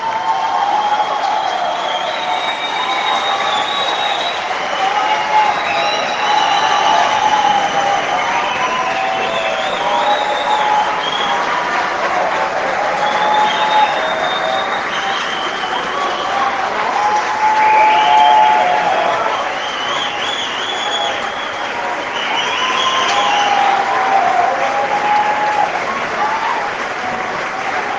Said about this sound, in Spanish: Que se escuche ese fuerte aplauso para su excelencia, el presidente de la República, Sebastián Piñera Echenique, nuestro líder, por supuesto, y tiene querido estar hoy presente en este encuentro de Chile Vamos.